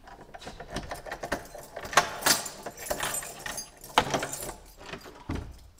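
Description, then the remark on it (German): Keys jangle and clink in bursts of bright metallic rattling, followed by the clunk of a door latch and a door in the St. Nikolaus chapel in Germany swinging open into a sleeping room, with no one speaking. “Was man jetzt eigentlich in keiner Kapelle sonst findet, in Deutschland, glaube ich, das ist, dass wir jetzt in der Kapelle eine Tür öffnen und dann kommen wir nicht in die Sakristei, sondern wir kommen in einen Schlafraum.”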